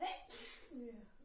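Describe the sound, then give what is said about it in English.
A single sneeze bursts out, a sharp breathy blast that is fairly soft, followed by a brief trailing voiced sound as someone recovers. “Bless you”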